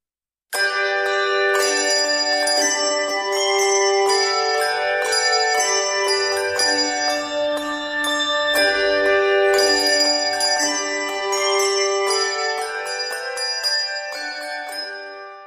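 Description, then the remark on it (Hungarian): Church bells in church towers peal together in a steady, overlapping stream of strikes, their rich tones ringing and sustaining throughout, loud with no voices present. “templomtornyokban porosodó, csengő-bongó harangok, amelyekről oly keveset tud a 21. század embere.”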